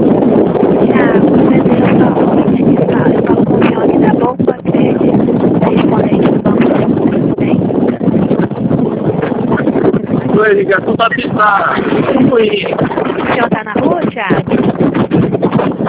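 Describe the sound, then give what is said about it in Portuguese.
Loud, steady wind roar from riding a motorcycle, heard over a phone call, fills the whole recording, a constant rushing rumble with engine drone, while a muffled voice talks faintly underneath. “Oi, tá conseguindo me ouvir? Muito mal. Na verdade, eu tô na moto.”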